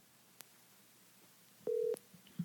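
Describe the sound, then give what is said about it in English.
A brief, steady electronic telephone tone sounds once as a call is placed, fairly loud, framed by sharp clicks, with a faint click earlier and a small blip after over a quiet, hissy line. No one speaks. “And let's call him.”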